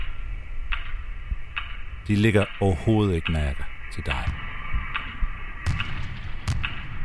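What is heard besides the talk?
metronome ticking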